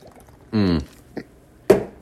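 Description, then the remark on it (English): Someone drinking 5.5% Boxer beer: a quarter-second wet slurping gulp, a small faint click, then a sharper liquid swallow, with no talking. “I'm taking a drink of this 5.5% shitty boxer beer.”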